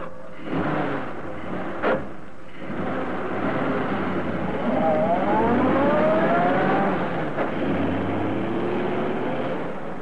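At midnight, a new car being stolen by two men has its engine turn over and roar as it pulls away, its pitch climbing steadily as it gathers speed under a continuous, loud rumble with no voices.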